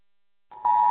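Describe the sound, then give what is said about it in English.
A phone's emergency alert tone for a tsunami warning for the coastal areas along Oregon and California, sent after a 6.9 earthquake in California, sounds: a steady, piercing electronic beep that starts softly, then jumps sharply louder and holds as one continuous note, with no talking. “Yep, and now my phone's going crazy saying tsunami warning for the coastal areas.”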